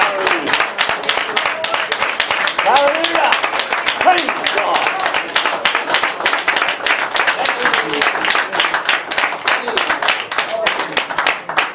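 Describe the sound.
An audience claps in praise to God, dense and sustained applause for several seconds, with scattered voices and cheers mixed in beneath the steady patter of hands.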